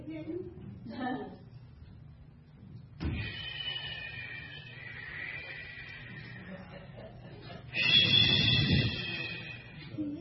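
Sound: door being pushed shut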